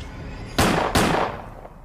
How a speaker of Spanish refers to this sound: Cuando yo iba allá en el puente, escuché dos disparos.